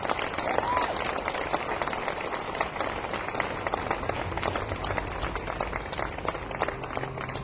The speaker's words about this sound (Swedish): Här har vi från Umeå. Har han rest för att spela här för er. Ge honom en er varmaste applåd.